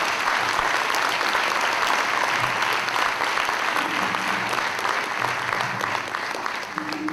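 A crowd applauds a gathering of people from Colombia, Mexico, Trinidad, Jamaica, the Bahamas and the Dominican Republic, clapping steadily for about seven seconds in a dense, even wash that holds at a loud level and eases slightly near the end.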